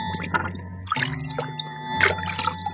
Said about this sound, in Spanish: Las burbujas brotan cada vez más débiles. Indican que el aire de los pulmones de Calimán se está extinguiendo. Las burbujas cesan.